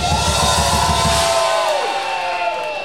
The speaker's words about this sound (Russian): Группа от одной настройки которой люди кричат: «Давай еще, блядь!»